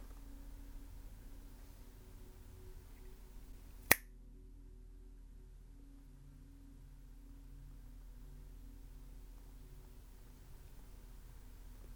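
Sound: finger snap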